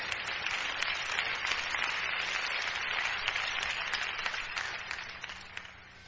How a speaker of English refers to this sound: That was such a rousing applause.